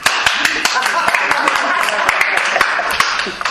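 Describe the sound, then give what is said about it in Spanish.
An audience bursts into steady applause to welcome a speaker, a dense wash of many overlapping hand claps with sharper individual claps popping out, holding at a loud, even level throughout. “Entonces le vamos a recibir con un gran aplauso y muchísimas gracias por esto.”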